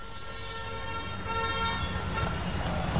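A car horn blares in a sustained, steady toot for about three seconds over a bed of rumbling road traffic, loud, with no voices, as a pedal-tricycle rider runs a red light and is hit by a car.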